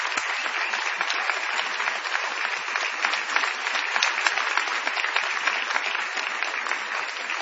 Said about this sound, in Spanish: Y vamos a extender el aplauso para saludar a Patricio Barton.